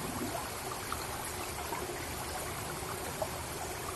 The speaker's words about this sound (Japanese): やっと水がぬるみ、せせらぎの音は心地よくゆるゆると流れていく。